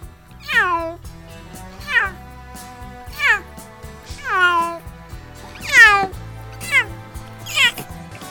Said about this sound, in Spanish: Este maullido que acabamos de escuchar de un gato es de un gato un poco asustado, ya que está dentro de un transportín y va al veterinario.